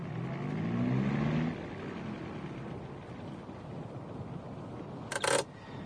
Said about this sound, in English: No, don't get out, Sir Graham. I'm going to park the car on the side of the road. There's a good spot over there, Temple, near that gate.